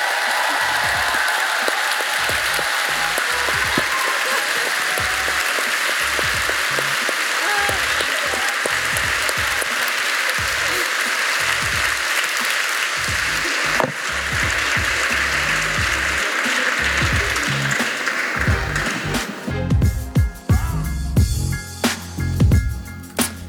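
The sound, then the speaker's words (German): An audience, clapping for the third time on request, claps loudly and steadily in a dense, continuous wash of applause. Toward the end, heavy rhythmic thumps like drumming or stomping join in beneath the clapping. “Laut klatschen, trommeln, was auch immer.”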